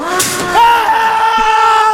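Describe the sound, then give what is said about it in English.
Two people walking through a haunted house scream together, loud, a sustained high-pitched wail that holds steady for a couple of seconds after a brief noisy start. “Okay, that part we both screamed.”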